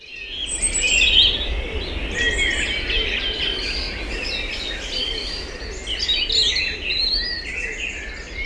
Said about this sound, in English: The birds, Cathy, many will have heard on Derek Mooney's excellent Dawn Chorus programme last month.